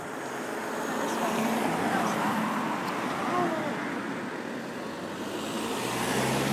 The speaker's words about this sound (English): No, that wasn't the bus. That's a bus.